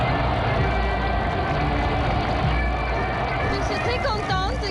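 A huge crowd of about 100,000 Munich residents waving German, Bavarian and French flags roars in a dense, unbroken ovation for General de Gaulle in 1962. It holds at a steady, loud level, with a few piercing whistles and shouts rising out of the din near the end.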